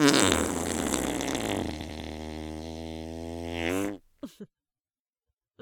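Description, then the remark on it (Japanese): A long, loud fart lasts nearly four seconds, starting sputtery and breathy, then settling into a steady buzzing drone, followed by a couple of short, faint toots after a pause. “興奮のあまり、思わずヘが出てしまった。”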